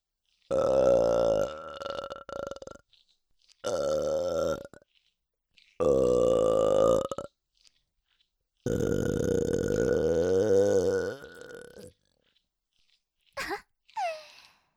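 Four long, loud, drawn-out burps separated by short pauses, the fourth the longest, followed by a couple of brief, quieter sounds at the end.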